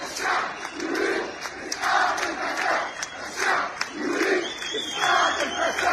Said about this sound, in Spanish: No queremos mundial, queremos sanidad. Es el grito que más se ha escuchado estos días en las mayores movilizaciones de los últimos años contra el gobierno en Marruecos.